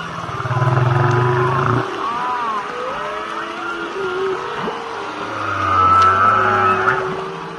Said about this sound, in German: Toll, oder? So hört sich das an, wenn Wale untereinander bequatschen, was es so Neues gibt. Könnte man stundenlang zuhören, oder?